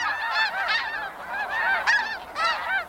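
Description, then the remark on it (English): A flock of Canada geese honks continuously, many overlapping nasal calls at a steady moderate loudness, as the geese fly across the sky in V-shaped formation while migrating. No one speaks. “A flock of geese wings across the sky in perfect V-shaped formation.”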